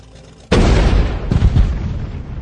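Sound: cannon shot fired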